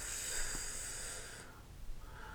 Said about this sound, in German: Und was, und wenn wir jetzt müde werden, ja, du schnarchst schon.